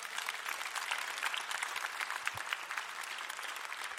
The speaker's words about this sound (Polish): Oddajmy Bogu za nią klaski.